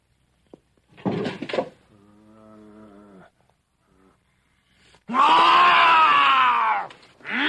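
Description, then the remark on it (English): After a short creak and a low, drawn-out groan, a man behind a closed door lets out one long, loud, anguished scream lasting nearly two seconds, and then the sound cuts off abruptly. “No matter what you hear in there, no matter how cruelly I beg you, no matter how terribly I may scream, do not open this door or you will undo everything I've worked for.”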